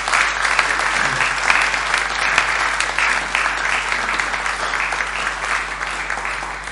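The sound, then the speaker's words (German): Steady audience applause for two people who have just answered questions: a dense wash of many hands clapping at an even loudness for several seconds, with no voices standing out. “Ich denke, das ist auch mal ein Applaus wert für die beiden.”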